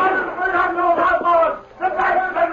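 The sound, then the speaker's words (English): Several voices shout and yell together in loud, overlapping bursts amid gunshots, with a brief drop in the middle before the raucous shouting surges again, by a general store in Hayville early one morning. “Suddenly, he was startled by shouts and gunshots.”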